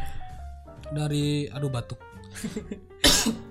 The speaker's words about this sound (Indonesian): Batuk.